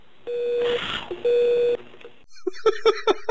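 Two steady electronic tones from a phone line at the end of a phone call, each about half a second long with a short gap between them, followed by a brief burst of muffled, garbled voice.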